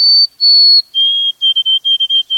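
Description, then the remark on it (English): A white-throated sparrow sings its early spring song of clear, pure whistled notes: two long higher tones, then a slightly lower long note followed by a rapid series of repeated short whistles, loud with no voices. “Second, we hear the early spring voices of birds that stopped over here for the winter, like the pure whistled notes of this white-throated sparrow.”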